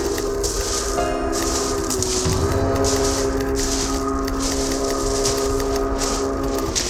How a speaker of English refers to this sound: Sounds like my last train coming down these tracks.